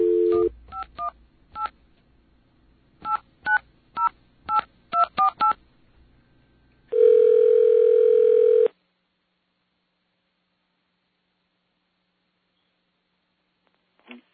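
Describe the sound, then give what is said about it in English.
A phone call being placed to a Bell Atlantic caller ID test line: a brief dial tone, then a quick string of about a dozen touch-tone key beeps, a steady buzzing ring tone for nearly two seconds, silence, and a final click. “Okay, we have a caller ID test, and this is a good one.”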